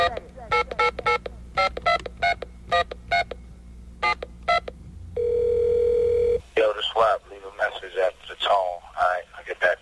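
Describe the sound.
A quick run of about a dozen touch-tone keypad beeps, followed by a steady telephone tone lasting about a second, then a voice begins talking over a faint background.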